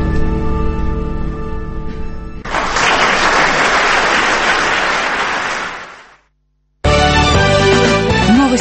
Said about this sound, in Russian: Прощаюсь с вами до вечера пятницы и оставляю со звуками сложной музыки и аплодисментами благодарных слушателей.